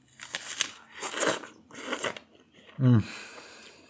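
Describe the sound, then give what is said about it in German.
Wet, crunchy bites into juicy fruit followed by a few seconds of moist, squelching chewing in uneven bursts, ending with a brief low, voiced murmur of satisfaction. “Das Obst schmeckt übrigens klasse. Super saftig, ey.”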